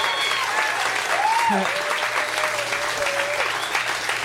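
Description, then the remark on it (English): Sustained applause from an audience for Dan Harmon and Emo Amos fills the room, a dense steady wash of clapping with a few whistles and cheers rising above it. “You guys, give these guys a round of applause.”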